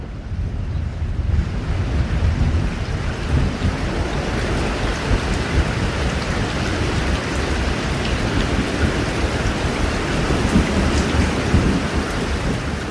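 A spring thunderstorm roars steadily, heavy rain pouring in a dense continuous hiss over a deep, rolling low rumble of thunder. No voices, just the storm at a constant, fairly loud level throughout.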